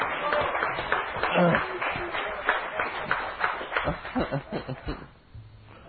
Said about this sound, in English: Yeah! Give Him a cheer.